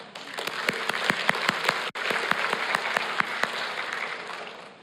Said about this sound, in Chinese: 我们也献给每个幸福小组副长同工贺业团队，我们为他们鼓掌好吗？